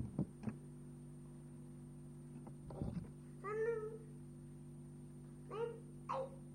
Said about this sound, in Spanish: ¿Qué fue eso? Gatito. ¿Un gatito? Sí.